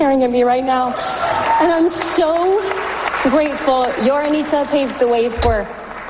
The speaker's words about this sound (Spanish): Se lo está agradeciendo ahora a Steven Spielberg, que aplaude desde el patio de butacas.